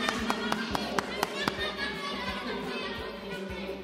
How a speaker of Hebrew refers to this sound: איפה מחיאות כפיים שלכם?